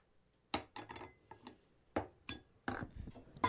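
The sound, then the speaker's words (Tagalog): Dishes in a camp clink and clatter in a run of sharp, bright knocks, about seven irregular bursts over a few seconds, with no voices. “Mga dalaga, kayo munang bahala maghugas ng mga pinggan, ha?”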